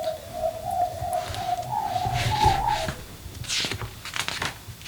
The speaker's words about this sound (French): Dehors, les oiseaux gazouillent. Ça sent bon, l'air est fraîche.